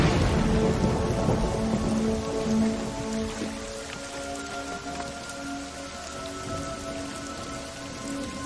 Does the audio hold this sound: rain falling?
yes